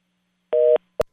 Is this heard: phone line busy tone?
yes